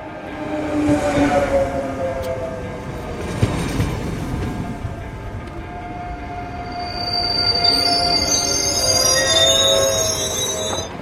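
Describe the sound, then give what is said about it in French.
A train crossing the Alps between France and Italy rolls steadily along the rails, its wheels letting out high, sustained metallic squeals that grow sharper toward the end, over a continuous low rumble. No one speaks. “Entre la France et l'Italie, des trains pour franchir les Alpes, pour aller travailler, pour faire ses courses, pour partir en vacances, s'émerveiller des paysages.”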